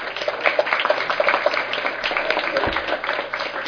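An audience applauds steadily for a task force's work and the guide it prepared, a dense wash of many hands clapping at once that holds at an even, fairly loud level throughout, with no voices standing out.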